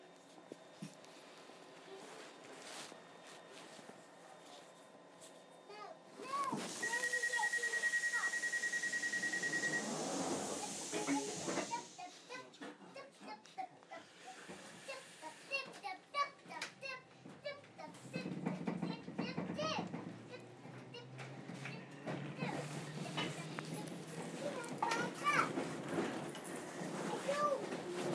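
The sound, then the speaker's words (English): Inside a London Underground District Line train carriage heading to Wimbledon, a steady rumble and rattle of the moving train, a brief high electronic beeping tone, and passengers, including children, chattering throughout. “This is a district line train to Wimbledon.”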